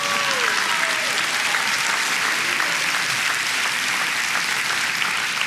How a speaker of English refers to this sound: Give yourself a big hand clap.